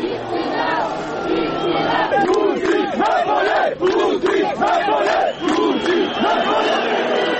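At the 20th anniversary of the Srebrenica genocide in Potočari, a large crowd shouts "priznanje i istina" (acknowledgement and truth) in unison as Serbian Prime Minister Aleksandar Vučić walks through, voices rising and falling in repeated rhythmic bursts, loud and dense throughout, with a continuous roar underneath.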